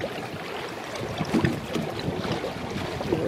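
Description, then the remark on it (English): A sailboat turns very gently up into the wind to slow down in shallow water, with steady gusting wind noise and water washing past the hull, a few louder rushes and flutters rising briefly before settling again. No one speaks. “So what we'll do is we'll turn up into it very gently so the boat slows down.”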